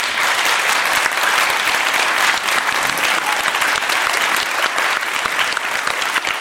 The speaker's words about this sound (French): Ça s'applaudit, mesdames, messieurs.